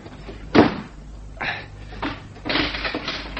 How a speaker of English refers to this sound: You locking the door reminded me of someone.